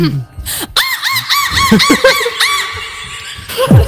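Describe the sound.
A person imitates a seagull with a series of high, arching, wavering squawks repeated in quick succession, loud and nasal, with brief breaths and lower vocal sounds between calls.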